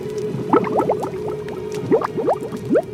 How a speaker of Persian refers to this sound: هنگامی که در جهنم افکنده شوند، صدای رعب‌انگیزش را بشنوند در حالی که پیوسته می جوشد.